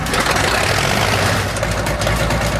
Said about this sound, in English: That's a caterpillar tractor, but in Canada we call it cats. Now we'll get the other cats going here.